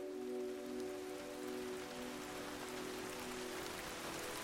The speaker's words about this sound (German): Ein kleines Dach übergibt dich, und so bist du vor dem Regen geschützt.